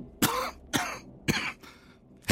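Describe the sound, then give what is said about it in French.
A woman coughs about five times in a row, harsh, with short pauses between each cough and no talking. “Elle tousse beaucoup en ce moment.”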